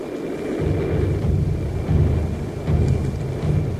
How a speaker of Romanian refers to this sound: Hei, drăci, asta e bună. Dar nu-i tam-tam. Sunt semnale morse. Alfabetul morse bătut într-o tobă de indigenilor.